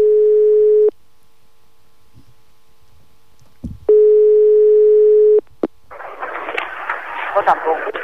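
Two long, steady phone ringback tones with a silent gap between them, then a sharp click and a rush of crackly, hissing line noise.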